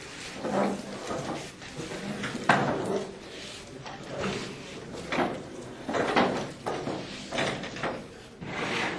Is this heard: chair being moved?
yes